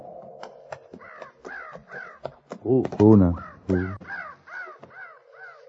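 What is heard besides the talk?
crows cawing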